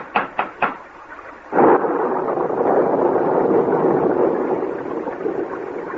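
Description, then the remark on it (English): Three quick sharp knocks, then a sudden loud crack of thunder during a storm with a downpour, swelling into a long, steady rumbling roar lasting several seconds, with no voices. “I haven't had the slightest idea where we are since the beginning of the storm when we lost our way.”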